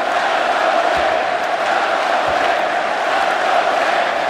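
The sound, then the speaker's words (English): A large arena crowd of Knicks fans at the Garden roars and chants, serenading their team in a steady, loud wash of voices, sustained without a break and with no single speaker standing out. “Crowd serenading their team now.”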